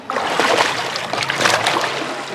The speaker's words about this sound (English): That is a man taking a dip in the River Seine, where Parisians can once again go swimming for the first time in 102 years.